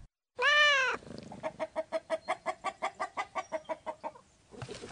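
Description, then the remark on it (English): Chickens clucking on a 61-acre certified organic farm in Cadiz, Ohio, where they are the manure source: a loud, drawn-out call opens, followed by a quick, steady run of about a dozen sharp clucks, with no talking. “The chickens are the manure source for everything.”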